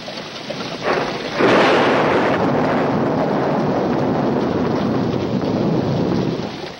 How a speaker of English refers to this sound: Dusky storm clouds hang overhead, lit momentarily by flashes of white lightning.